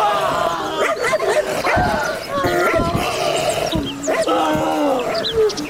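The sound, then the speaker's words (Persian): A dangerous dog barks and yips excitedly in quick, loud bursts, with sharp high-pitched cries scattered through, while people talk and call out in the background for others to come and tie it up. “او مردم، ای سگ از تیز بیاین بستهش کنین.”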